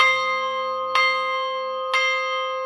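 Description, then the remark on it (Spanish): A church bell tolls the daily mass toll in a slow, steady rhythm, each loud metallic strike landing about a second apart over a long, ringing hum that never fully fades. No voices. “Vamos a tocar un toque de misa diaria. A ver, ¿cómo es el toque de misa?”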